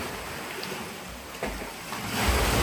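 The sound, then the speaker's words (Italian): Sea waves wash and surge through the Grotta degli Amanti, a coastal sea cave in Calabria, Italy, reachable only by sea and not far from the beach: a broad rushing roar that swells louder toward the end, with booming low rumble and no voices. “Questa è la grotta degli amanti, si arriva solo via mare, non riesco a stare in piedi tranne alcuni punti.”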